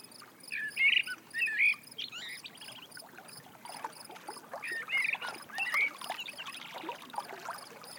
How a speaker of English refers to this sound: And then a bird begins to sing into the stillness of this beautifully calm place.